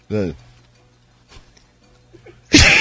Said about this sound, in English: Excuse me, I got a cough.